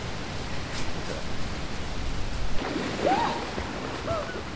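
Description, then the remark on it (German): Water splashes and churns steadily for several seconds, fairly loud, as a person jumps into a cold lake. Toward the end a short vocal exclamation rises over the splashing. “Plötzlich packt mich doch die Lust, ins kalte Wasser zu springen.”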